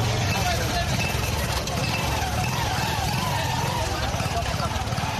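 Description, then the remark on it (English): Busy junction traffic near Juba Teaching Hospital in Juba, with motorcycle taxis (boda boda) bunched up carrying passengers, a steady dense wash of engines and road noise, with indistinct voices murmuring underneath throughout. “At a busy junction near Juba Teaching Hospital, motorcycle taxis or Boda Boda are bunched up, each carrying passengers anxious to reach their destination on time.”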